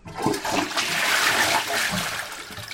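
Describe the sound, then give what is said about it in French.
A toilet flushes, a loud continuous rush of water that swells quickly and stays steady before starting to taper, with faint gurgling underneath. “Et bien tirer la chasse d'eau des toilettes.”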